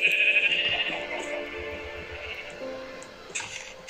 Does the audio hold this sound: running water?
no